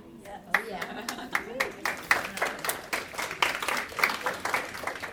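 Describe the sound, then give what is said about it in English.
Sparse, polite clapping from an audience, a handful of light hand claps at an unhurried, uneven rhythm, with faint crowd murmur beneath. “Thank you for the golf clap.”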